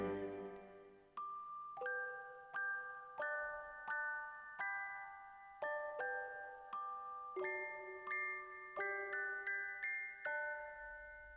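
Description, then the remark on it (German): The carillon of a garrison church (Garnisonkirche) rings out a slow melody, each bell note struck clearly and left to ring into the next in a steady, stately rhythm, bright and resonant with no voices. “Da klang von der Garnisonkirche her das Glockenspiel hell und doch warnungsschwer.”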